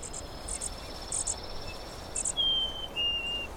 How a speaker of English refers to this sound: Most of the white-crowned sparrows that nest in our mountains migrate vertically, stay in Boulder for a while, and then head farther south.